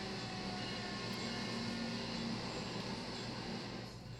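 A loud, steady rumbling roar fills the whole stretch, like a train running on tracks right next to where someone lives, holding level throughout and only easing slightly at the very end. No voices.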